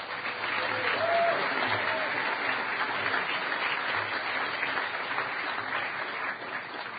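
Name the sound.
audience applause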